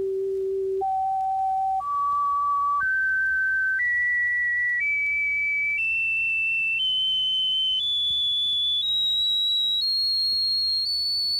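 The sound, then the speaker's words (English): The overtone series of middle G, the additional tones heard when middle G is struck on a piano, sounded as pure, whistle-like tones, about eleven in turn, each held roughly a second, climbing higher with ever-smaller pitch steps over a faint low hum. “This is why, because on the piano, when you strike middle G, you hear not only G, but these additional tones. And these are what are called overtones.”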